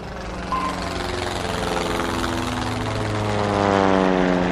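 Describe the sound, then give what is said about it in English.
A steady, droning propeller aircraft engine hums continuously with strong low harmonics, loud, slowly growing a little louder toward the end. No voices are heard. “But as you struggle to breathe in economy class, imagine what it might have been like in air travel 70 years ago.”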